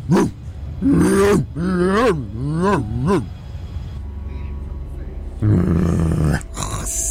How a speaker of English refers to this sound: get that dog out of here. Get the dog out of here.